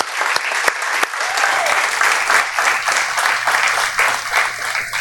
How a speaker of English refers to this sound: I think we can give our graduates, or soon-to-be graduates, a round of applause. Yeah.